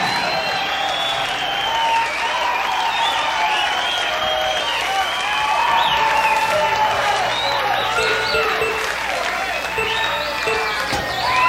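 A large concert crowd in Tucson, at Night Train on the band's second night there, applauds and cheers steadily for the whole stretch, a dense, loud wash of clapping mixed with whoops, shouts and whistles that never lets up.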